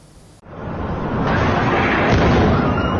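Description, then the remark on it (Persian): A sudden, powerful explosion of oxygen and helium cylinders bursts out after a brief quiet start, during a fire at the Sina Mehr surgical center in Shemiran, north Tehran, then gives way to a loud, continuous roaring rumble that holds steady to the end, with no voices. “انفجارهایی که شامگاه 10th تیر 2 سال پیش شمال تهران را لرزاند.”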